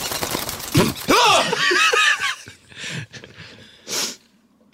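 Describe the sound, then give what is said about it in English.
A loud, voiced sneeze bursts out with a rising and falling cry, followed by a few short snorting, snicker-like breaths and a final sharp puff of air. “Sorry, I sneezed.”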